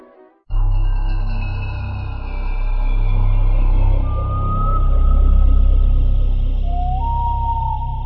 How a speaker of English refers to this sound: Okay, so that noise you just heard there was the Playing in the Dark logo.